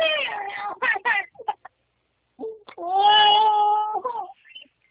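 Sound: kitten meowing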